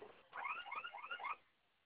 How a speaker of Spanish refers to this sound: Digite su clave para silenciar la alarma.